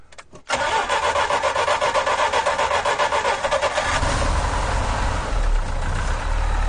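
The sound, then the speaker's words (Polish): The cold engine of a Żuk that has been standing for a while cranks briefly, then catches and roars into a steady, loud idle with rough low rumbling. No one speaks. “Zobaczymy, czy odpali, jest zimny, trochę stał.”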